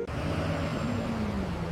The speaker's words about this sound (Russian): Ну вот, следующий автобус.